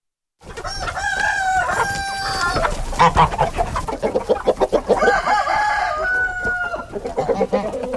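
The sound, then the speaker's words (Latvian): Chickens cluck steadily in a dense flock on a 5-hectare farmstead in Sviļi, Sigulda municipality, which keeps 70 hens and chicks, 4 turkeys and 3 geese, with a rooster crowing over the chatter, the calls overlapping continuously for several seconds. “Viņi savā 5 hektāru lielajā piemājas saimniecībā audzēja 70 vistas un cāļus, 4 tītars un 3 zosis.”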